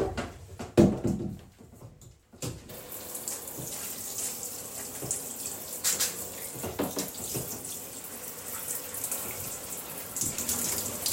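shower water running

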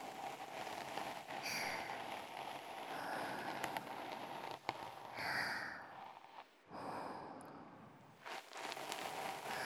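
rain falling

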